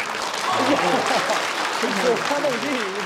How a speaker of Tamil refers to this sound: Change 3 என்ற இந்த விண்கலன் நிலாவின் தரையை தொட்டபோது பீஜிங்கில் உள்ள விண்வெளி கட்டுப்பாட்டு நிலையத்தில் இருந்த விஞ்ஞானிகள் கைதட்டி ஆரவாரம் எழுப்பிய காட்சிகள் அரசு தொலைக்காட்சியில் நேரடியாக காண்பிக்கப்பட்டன.